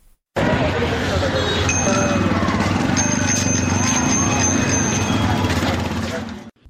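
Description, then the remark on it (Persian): Bicycle bells ring in bright, repeated high dings over a steady roar of city traffic in Jalalabad, Nangarhar province, Afghanistan, where cyclists ride alongside cars, with engines and a murmur of voices underneath throughout. “جلال آباد مرکز ولایت ننگرهار، شهری که به گفته شماره ساکنان آن در این روزها بایسیکل سواران در بیشتر جاده های آن در کنار موترها در حرکتند.”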